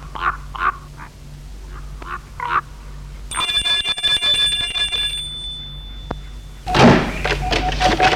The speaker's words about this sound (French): Je vais sonner à la porte.